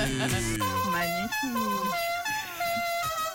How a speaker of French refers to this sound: 12 titres club légendaires totalement interprétés avec des klaxons de voitures.